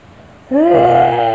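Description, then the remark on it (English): A person's voice imitates a wolf howl: after a brief quiet moment, a loud, sustained tone slides upward in pitch and holds steady to the end. “No, the wolf, not the fox.”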